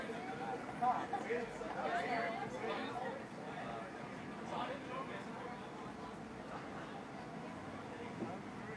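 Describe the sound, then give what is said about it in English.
A dense crowd murmurs and chatters outdoors, many overlapping voices blending into a steady, lively babble with no single speaker standing out, holding at an even level throughout. “There's a lot of people out here. Listen.”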